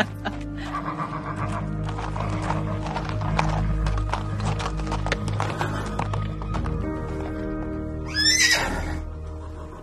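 A horse's hooves clip-clop steadily over a low rumbling background, then near the end the horse lets out a loud, shrill neigh.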